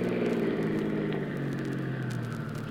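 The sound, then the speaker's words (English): A car engine drones steadily, a loud low hum with a faint rising-and-settling pitch as the vehicle drives along the road, with no voices. “Bad we took this car. It hasn't got much guts.”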